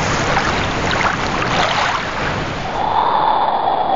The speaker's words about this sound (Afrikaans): Die wind was van voor en die see het baie onstuimig geword.